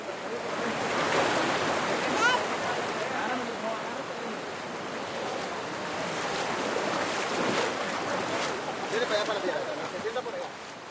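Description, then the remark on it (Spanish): Loud, steady rush of river water with churning and splashing as a human chain of men holding hands wades across a river in the jungle, a continuous roar that swells slightly in places, with faint indistinct voices mixed in. “Es una cadena humana de puros hombres agarrados de la mano, empujándose en los unos gatos cruzando el río.”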